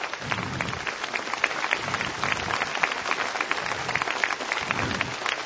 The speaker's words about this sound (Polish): Jeszcze raz, gorąco, oklaskami, podziękujmy za to, że przyjechali z Warszawy